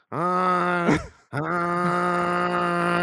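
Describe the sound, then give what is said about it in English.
A tram sound effect: two long, steady, low-pitched horn blasts, buzzy and rich in overtones, with a brief gap between them. Fairly loud, with no voices. “This is like a tram. I was looking for like a classic, like a locomotive was really.”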